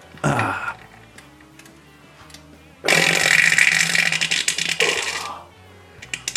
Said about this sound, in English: it's an entire series of ASMR videos of poop sounds. You can tell they're real because the guy's sort of grunting, right? He's really straining.